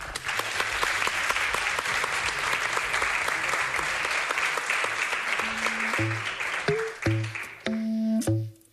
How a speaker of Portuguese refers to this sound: Moitísimas grazas por axudarnos. Un aplauso.